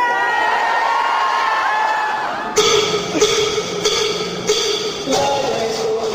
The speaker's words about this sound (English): The one that I saw was in Washington, D.C., in this huge hangar-like space at the annual convention of the American Library Association. Librarians had packed the place and were screaming and cheering.